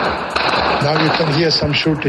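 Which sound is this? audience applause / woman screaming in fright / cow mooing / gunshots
gunshots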